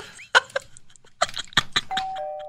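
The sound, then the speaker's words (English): Wind chimes of metal pipes clang in a quick, irregular cluster of metallic strikes, some bright, ending with a couple of tones ringing on and slowly fading. No one speaks. “Wind chimes need to be illegal.”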